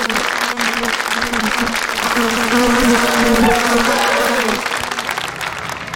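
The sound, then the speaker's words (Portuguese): A crowd claps steadily for several seconds for someone who has just explained how the Aedes aegypti mosquito develops, a dense wash of many hands applauding at a constant loud level, with a faint murmur of voices mixed underneath. “Palminhas pra ele.”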